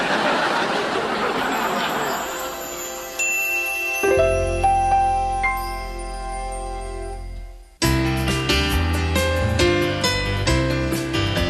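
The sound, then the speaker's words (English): A bell rings out a few clear, lingering strikes over a low steady hum, after a stretch of muffled crowd and traffic noise, then dense music takes over. “Listen, Daddy, a bell.”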